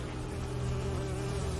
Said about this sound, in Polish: I te muchy, oj, słuchajcie.